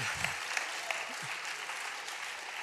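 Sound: audience applause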